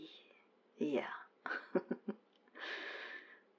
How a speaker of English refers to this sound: Sorry for doing the breathing thing in your ear right now. I'm just very nervous.